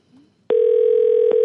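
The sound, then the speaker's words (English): A steady electronic telephone tone of an outgoing call placed from Detroit starts abruptly after a brief faint murmur, holding loud and continuous with a short click-like break near the end, like a phone line dial tone. “Who's on the phone? Oh, there's my phone.”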